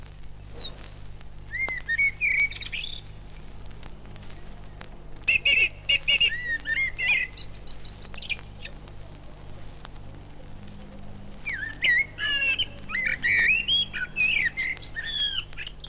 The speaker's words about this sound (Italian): Come non sono facilmente superabili nel loro colloquio nell'aerea altana di un uccellatore udinese, questo tordo e questo merlo, entrambi maestri più volte premiati.